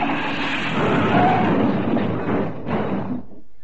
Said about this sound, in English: The handbrake. Hey, look out! My turn! We're going to hit those rocks!